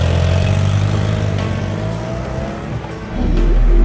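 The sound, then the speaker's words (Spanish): A motorcycle engine roars and revs as Maurizio rides off on his motorbike toward his country mansion in the Swiss Alps, its pitch climbing as it accelerates, staying loud throughout with a fresh surge of throttle at the end. “Se montó de un salto en su moto y se dirigió a su mansión campestre en los Alpes suizos.”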